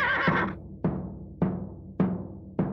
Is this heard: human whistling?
no